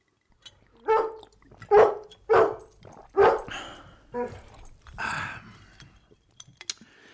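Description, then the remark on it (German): A dog named Hero barks about six times in a loud series, the sharp woofs spaced roughly a second apart and trailing off into softer, scattered noises. “Aus, Hero ist gut jetzt.”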